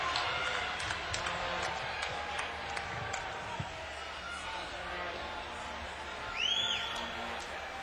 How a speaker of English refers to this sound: Crowd going crazy. Trying to control the crowd.